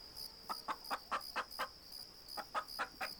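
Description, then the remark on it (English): A run of short, rhythmic chicken clucks in two quick bursts of about half a dozen each, over a steady high insect-like drone. No one speaks. “He'd sleep under the moonlight, with chickens and pigs strolling around his berth.”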